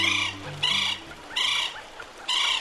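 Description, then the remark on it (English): A northern bobwhite quail calls four times in a steady rhythm, each loud, harsh, harmonic-rich call lasting about half a second, with a low hum underneath and no voices. “Cuba is home to a unique population of northern bobwhites, with plumage patterns and short bills that set them apart from bobwhites on mainland North America.”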